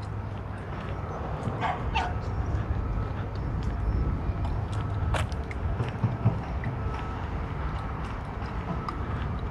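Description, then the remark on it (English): Dogs bark in scattered, irregular bursts over a steady low mechanical rumble that fills the background throughout. “Garbage truck, talking, barking dogs.”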